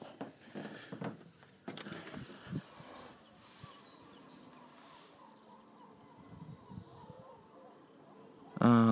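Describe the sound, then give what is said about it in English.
Birds chirp and twitter busily outdoors, heard through a window, in a steady, cluttered chorus, mixed with bumps and rustles and a loud burst right at the end. “Actually, the birds are being too bloody noisy.”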